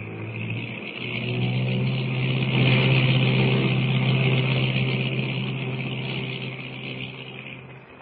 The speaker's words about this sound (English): Brought that plane in perfectly, Lewis. I never thought we'd get close enough to be able to wade into shore.